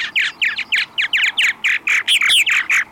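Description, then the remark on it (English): Purple martin song: a rapid, steady run of about a dozen bright, gurgling chirps and warbles, fairly loud, with no voices over it. “And the third chorus of voices belongs to birds now migrating from farther south, like the purple martin.”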